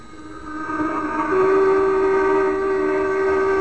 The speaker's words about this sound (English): those tugs hooting and tooting mean that the caisson has been placed in